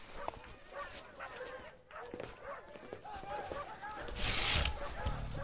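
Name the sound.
pack of dogs barking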